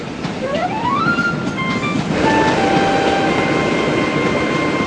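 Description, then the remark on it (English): A passenger train pulls out of the station and rolls along the rails with a steady, loud rumble, its motor whine rising in pitch as it picks up speed, then holding steady tones. “It's really the train that's moving, Caillou.”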